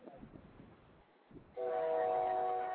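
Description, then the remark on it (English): At a train station, a low rumble of a train is followed by a loud, sustained train horn blast that starts abruptly and holds steady. No one speaks. “They're obviously from the train station.”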